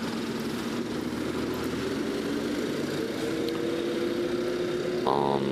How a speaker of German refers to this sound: Der Trecker kann übrigens 40 fahren, sagt der Aufkleber.